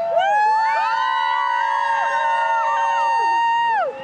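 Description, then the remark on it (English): A roadside crowd along a suburban road, some cheering and some protesting President Bush as his motorcade travels to a fundraiser, shouts with many voices overlapping in long, wavering yells that stay loud and steady for a few seconds before cutting off. “Along a suburban road, people turned out to both cheer him and protest.”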